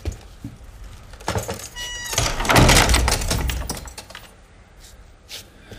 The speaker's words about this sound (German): Aha, dann, dann schließe ich nun die Tür, ja?